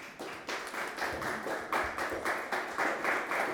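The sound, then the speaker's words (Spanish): An audience claps for the Lord in sustained applause, a dense, steady wash of many hands with a slightly rhythmic pulse, fairly loud and without voices on top. “Pueden sentarse y darle un aplauso al Señor.”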